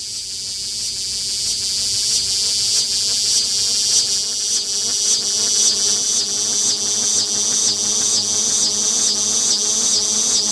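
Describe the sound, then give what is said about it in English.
A loud, dense cicada drone recorded on a porch fills the air, its high buzzing swelling and easing in steady pulses for about ten seconds with no voices present. “Buzzing up and then buzzing back down because there was the cicada.”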